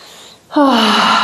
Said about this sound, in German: Wow, krass, ich kann atmen. Yeah, ich kann atmen. Boah, jetzt muss ich tief atmen.